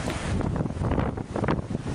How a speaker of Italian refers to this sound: Il suono in sottofondo che sentite è quello dell'uragano Sandy. Siamo a New York, ottobre 2012.